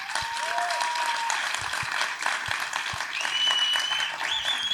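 An audience claps steadily, a dense wash of applause that holds at an even loudness throughout, with a few thin whistles rising through it near the end.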